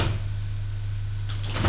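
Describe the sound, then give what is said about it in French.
An elevator door slides open or shut over a steady low mechanical hum, with a soft clunk at the start and a brief rattling rush near the end; moderately loud, no voices. It is the elevator of an apartment building with a concierge, being taken up to an upper floor. “Et Judith prend l'ascenseur pour aller à l'étage.”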